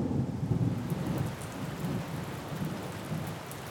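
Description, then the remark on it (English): Heavy rain pours down at night in a steady, dense hiss while deep thunder rumbles low underneath, strongest at the start and rolling on continuously. No voices are present. “It was I who ventured out into the awful night from the safe confines of the van, getting pounded by rain and drenched to the bone.”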